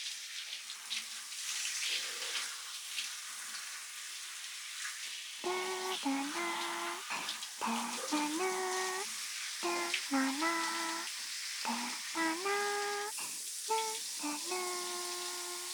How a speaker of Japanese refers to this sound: 少し熱くなりすぎました。それでは改めて、泡を流しますね。 温度は問題なし。では行きますよ。